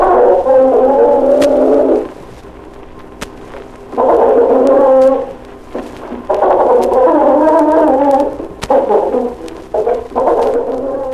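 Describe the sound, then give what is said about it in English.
Two chickens give low, grumbling threat growls in several drawn-out bursts with short pauses between them, each trying to find an opening to attack the other. The growls are a steady buzzy tone that rises and falls slightly, fairly loud, with no talking. “Two bark each other, keep up a low growling or grumbling as each tries to find an opening.”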